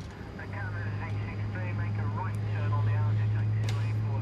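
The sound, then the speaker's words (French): A steady, loud engine drone fills the inside of a military airplane: a constant low hum over a broad roar, with faint, muffled voices barely audible beneath it. “Dans un avion. Dans un avion ? Militaire. Dans un avion militaire ?”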